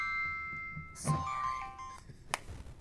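A cell phone rings with a soft electronic ringtone of sustained, shifting tones, broken by a brief rustling burst and a sharp click near the end.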